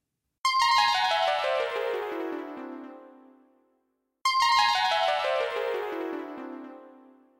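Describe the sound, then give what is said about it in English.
Watch buttons are pressed twice, each setting off a bright electronic tone sequence that cascades rapidly downward in pitch for about three seconds, the two bursts identical, with no talking. “They pushed the buttons on their watches.”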